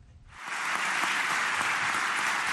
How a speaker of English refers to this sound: To rousing applause from parliamentary deputies of his party, Turkish President Recep Tayyip Erdogan Wednesday accused Western countries of seeking to relaunch the Crusades.